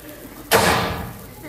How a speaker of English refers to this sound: We need a door slam.